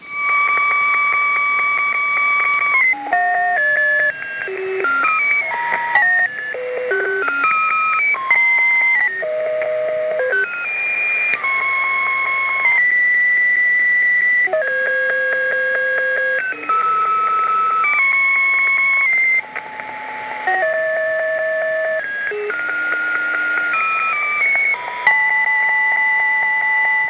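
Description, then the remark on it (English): A steady stream of pulsating electronic tones steps up and down in pitch, like a radio being tuned back and forth across a signal, loud and continuous with no voices. “As you can hear, they're kind of a series of pulsating tones.”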